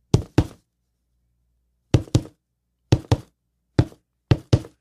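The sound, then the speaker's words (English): Sharp knocks on a door in a distinct rhythmic pattern, mostly quick pairs separated by pauses, knocking out the Shield's theme, heard at the end of SmackDown while Roman Reigns is in his office, with no voices. “Like, the knock was the Shield's theme.”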